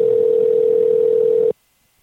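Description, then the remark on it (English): A phone line rings on an outgoing call: one steady electronic ringback tone holds for about a second and a half over faint line hiss, then cuts off into silence. No one speaks. “Oh, see, it's ringing.”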